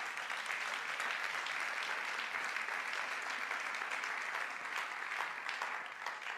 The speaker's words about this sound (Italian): Dite amen. Facciamo un applauso a questi cari.